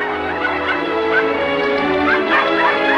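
A mother collie and several of her puppies by a lake bark, yelp and whimper together in a steady, overlapping chorus of high-pitched cries, fairly loud throughout.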